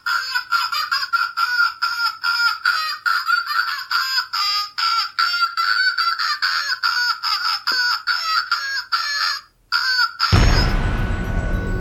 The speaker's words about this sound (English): Bring on the bird! All right, here we go. Enjoy our goofy, stuffed, singing bird, everybody.